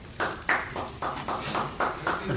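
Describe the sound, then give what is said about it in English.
A brief round of applause from a small group at a commission meeting after a motion carries, hands clapping in a steady, fairly even rhythm of sharp bright bursts at moderate volume, with no one talking. “We almost never get applause. It's kind of nice.”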